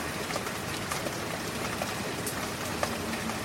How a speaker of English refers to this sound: It's still raining out here, where I am.